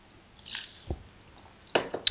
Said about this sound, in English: So let me take a drink of water.